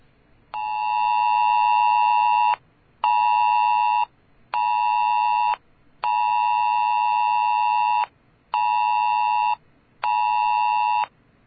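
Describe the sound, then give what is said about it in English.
A harsh, piercing mobile emergency alert tone blares in six loud pulses, the first and fourth longer than the rest, separated by brief silences, played from a phone held up to a microphone. No one speaks. “Okay, we have the actual ringtone or whatever it's called that we'll play.”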